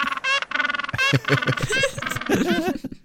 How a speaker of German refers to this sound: Und Pinguine machen auch einen ziemlich geilen Sound. Den möchte ich euch ganz kurz noch vorspielen. Irgendwie eine Hupe.